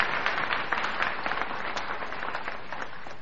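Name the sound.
audience applause and cheering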